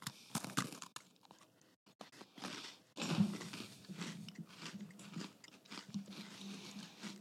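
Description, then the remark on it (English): A crisp bite into a sour, lemon-tasting cookie, followed by steady, crunchy chewing with irregular crackling bursts that continue throughout, no talking. “Tastes like a lemon cookie.”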